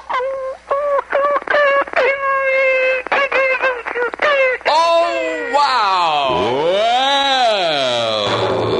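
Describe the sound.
A woman imitates her dog with her voice as her talent act on WAKY Louisville radio's amateur weekend: a quick series of high, yipping whines, then a long, loud howl that slides up and falls back down in pitch.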